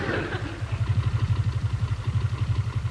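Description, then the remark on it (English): A motorcycle engine idles, its low, steady chugging pulsing in a quick, even rhythm for a few seconds, with a brief rougher burst at the start. “Stealing the collection money, he bought a motorcycle.”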